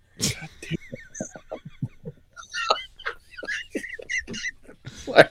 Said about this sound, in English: You arguing with the dog now or something?